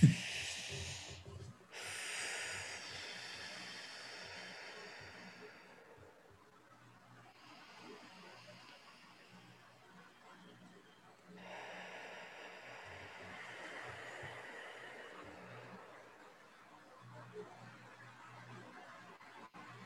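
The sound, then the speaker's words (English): Slow, deep breaths drawn in and released as a breathing exercise, several full cycles with long airy inhales and exhales, fairly quiet, with no talking. “Should we do some breathing together before we start?”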